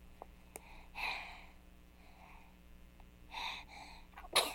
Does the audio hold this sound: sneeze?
yes